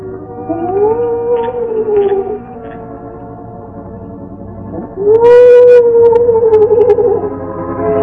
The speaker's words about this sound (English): At regular intervals, he paused, and the low, mournful cry of the owl was heard through the night.